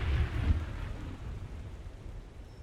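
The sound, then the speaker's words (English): A deep rumble of thunder rolls in at the start and fades, while steady rain hisses throughout, a storm outdoors all around a raft, the Pink Palace, tied up to a riverbank. “And then they tried to get some sleep with the storm all around them.”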